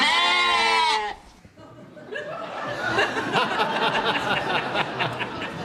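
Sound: sheep bleating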